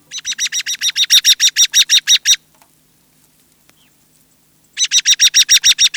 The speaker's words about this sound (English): Early October days bring flocks of American robins to feed on fruiting trees and berries.